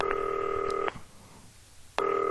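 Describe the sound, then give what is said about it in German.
Two steady telephone keypad tones from dialing on a green telephone, the first held for almost a second, then a brief quiet gap before the second begins. Clear, with no talking. “Immer noch keine Kurzwahltasten drin, ne? 1899.”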